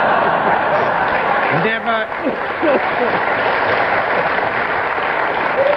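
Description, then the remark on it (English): A studio audience claps steadily and laughs throughout as Kenneth Williams presses his buzzer. It is a dense, even wash of applause with chuckles rising near the middle, fairly loud, with a brief voice cutting through. “While the audience were laughing and clapping, Kenneth Williams pressed his buzzer.”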